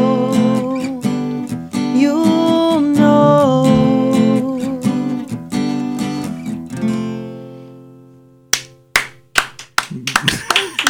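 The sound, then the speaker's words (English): A song's final notes ring out and fade, then a few sparse, uneven hand claps follow, irregular, from only two people applauding. “There's only like two of us in here, so the clapping, it was not intentional. It sounded so scattered.”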